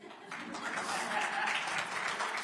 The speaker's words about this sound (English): Amen. You can clap for God.